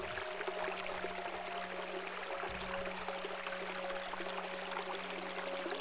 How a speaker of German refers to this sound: Es ist friedlich hier und ruhig, nur das Plätschern ist deutlicher geworden.